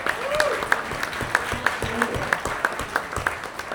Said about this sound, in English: Three rising stars we should be proud of. Let's have another round of applause for all that time.